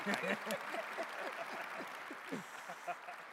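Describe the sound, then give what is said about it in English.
An audience at a meeting at the auto show applauds Mayor Duggan and other guests, a dense wash of clapping for a few seconds with voices murmuring and calling out underneath. “So ladies and gentlemen, please, a round of applause.”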